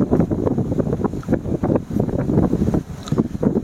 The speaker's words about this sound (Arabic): بيقولون المروحة مزاحمة، صوتها عالي شوية صح؟ خلاص. لا المروحة دي خلاص خلاص خلاص. لا لا خلاص نتحمل، ما فيش مشاكل.